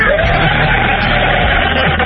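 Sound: crowd cheering and yelling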